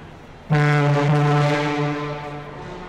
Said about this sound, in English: The sound of your troop ship's horn and a welcoming army brass band, a great adventure began.